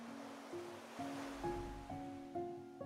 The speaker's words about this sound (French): Le bruit des vagues te berce, et c'est comme si vague après vague, le calme grandissait en toi.